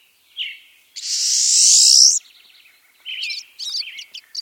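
A pine siskin calls with no talking: a short note, then a long, loud, rising buzzy zreee, followed by quick twittering chatter of high, thin notes.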